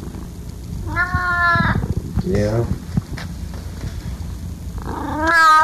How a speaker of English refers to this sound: You're a weird little kitty. You done? You happy? I hear you purring. Oh, you're not done? Okay.